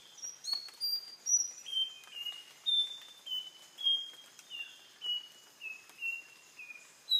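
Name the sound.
nightingale wren song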